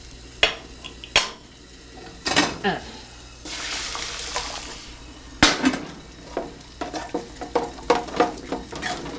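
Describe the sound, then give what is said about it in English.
Gravy of browned flour and water being stirred in a metal pan to keep it from getting lumpy: a spoon clinks and scrapes against the metal in uneven bursts, with a soft sizzling hiss in the middle, with no talking. “That's why I'm standing here stirring it so it won't get lumpy.”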